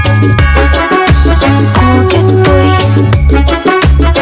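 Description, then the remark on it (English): A loud reggae track with deep, booming 808 bass notes stepping under a steady, driving drum beat, bright tones layered on top, playing continuously with no one talking. “It's actual reggae, like 808s and a drum beat to it.”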